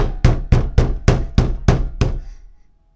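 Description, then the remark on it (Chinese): Loud, heavy knocks pound on a door, seven blows in quick, steady succession, each a full-bodied thud that rings briefly before the last one fades into silence. “敲门，再大声一点。”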